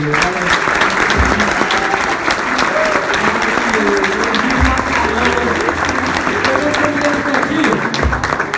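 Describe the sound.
Sustained audience applause, a dense steady wash of many hands clapping at even loudness for several seconds, with faint voices mixed in underneath.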